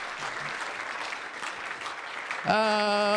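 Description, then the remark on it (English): An audience claps for Addison, Illinois, steadily in a dense, continuous burst of applause for a few seconds, then a loud sustained tone abruptly starts over the end of the clapping. “Let's hear it for Addison, Illinois. We applaud almost any place.”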